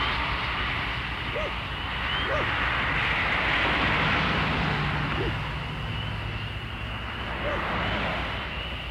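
airplane flying overhead

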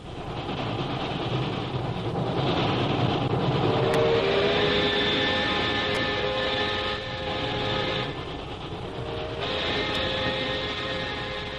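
train travelling on rails

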